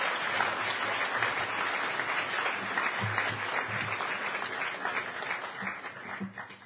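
A conference audience applauds the speaker selection committee steadily, a dense wash of many hands clapping at an even loudness for several seconds, easing slightly toward the end, with faint voices murmuring underneath.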